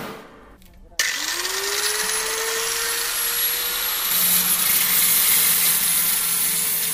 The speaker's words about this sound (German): Mit Schweißgerät und Trennscheibe macht er sich an die Arbeit, damit er in drei Monaten die Produktion seiner ersten Erfindung in der eigenhändig aufgebauten Werkstatt aufnehmen kann.